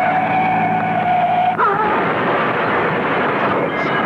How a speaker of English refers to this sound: Crashed and burning. Let him. Let him burn.